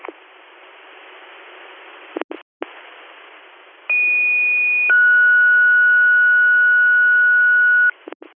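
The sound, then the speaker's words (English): Fire dispatch paging tones for the East Campbell fire department, sent for a reported vehicle fire in a driveway in the town of Hornby, over a hissy radio channel: a short, steady high tone followed by a longer, lower steady tone, both loud and clear, with brief static bursts before and after. “Would you like additional tones for East Campbell?”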